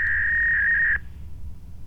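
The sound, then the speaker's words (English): A modem or fax machine tone: one steady, high-pitched electronic note holds for about a second, then cuts off abruptly, leaving only a low background rumble. “A little modem breath.”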